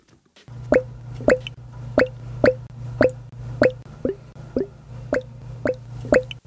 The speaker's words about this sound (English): That bubbling in the background is a sound of sweet, fresh pressed apple juice transforming into quaffable cider, or what some folks in the U.S. call hard cider.